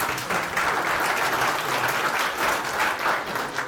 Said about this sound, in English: round of applause for Bruce, please.